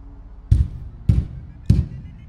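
A huge, cold, rusty iron door knocker bangs against a gargantuan door three times in a steady rhythm, each blow a heavy, booming thud with a brief metallic edge, alone with no voices.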